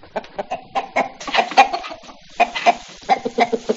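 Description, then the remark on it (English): A hen clucks in quick, irregular bursts, a steady run of short clucks with occasional louder squawky notes, no talking. “The hen that laid the golden egg, right?”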